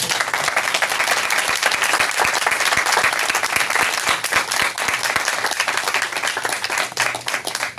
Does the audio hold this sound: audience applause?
yes